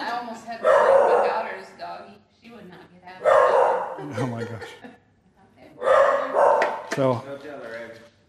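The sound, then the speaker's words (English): Dogs bark loudly in three separate bursts, a few seconds apart, each a quick cluster of sharp woofs, during a service held at someone's home, while a person talks briefly between them. “And we got dogs barking during our service.”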